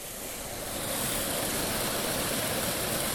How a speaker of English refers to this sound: The water's running down over bare rock and then tumbling over a little waterfall about 4 or 5 foot high and then into a pool, and the water is very brackish. It's brown, it's stained by peat.